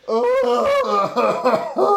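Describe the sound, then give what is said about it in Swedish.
A voice imitates an eerie cough with a few drawn-out, wavering, tonal bursts that rise and fall in pitch, fairly loud, with no other sounds around it. “Och så en hosta.”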